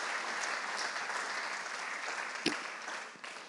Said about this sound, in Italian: Fate un applauso a Gesù anche con voi.